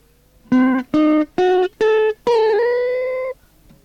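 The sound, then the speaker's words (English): Five separate pitched notes climb upward one after another, a C diminished chord arpeggio: C, E flat, G flat, A, then C. The first four are short and evenly spaced, and the final note rings out longer before stopping. No voices are heard. “I'm going to play first the notes of the C diminished chord in an arpeggiated manner.”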